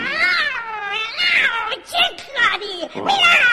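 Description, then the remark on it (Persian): A cat meows insistently, one long wavering yowl followed by several shorter, rising-and-falling meows in quick succession, loud and whiny throughout. “صبر داشته باش، صبر داشته باش گربه، گوش بده چی میگم.”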